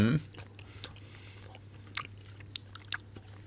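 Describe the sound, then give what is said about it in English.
Someone chews a mouthful of cheap supermarket blue cheese, with a handful of soft, irregular smacking and squelching bites over a low steady hum, after a brief vocal noise at the start. “Sound of chewing always makes for a good podcast item.”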